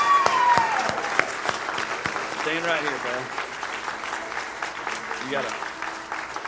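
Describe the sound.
Steady audience applause fills the whole stretch, a dense crackle of many hands clapping, while a man's voice speaks briefly over it.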